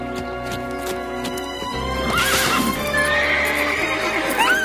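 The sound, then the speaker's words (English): A horse whinnies loudly as its rider falls off, its rising, shaky neigh sounding over a steady clip-clop of hooves that carries through the whole moment. “She fell off her horse.”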